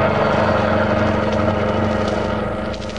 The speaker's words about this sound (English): Get this car going. Blackie, you killed them. You killed them. And I'll kill you if you don't give this car all it's got.